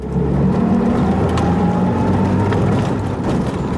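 A field guard's jeep on a border patrol suddenly accelerates, its engine roaring loudly and continuously as it picks up speed, a heavy low rumble with a rising whir layered over it and no voices.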